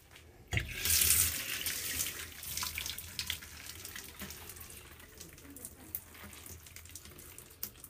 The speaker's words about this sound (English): Next, I turn back on my shower. And I like the water rinse a little bit.